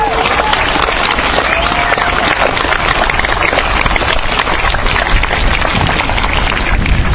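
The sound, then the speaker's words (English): A large crowd at an evening rally in Wellington applauds the organisers steadily for several seconds, a dense, loud wash of clapping that holds at an even level from start to finish with no pauses. “And let's give the organisers a big round of applause.”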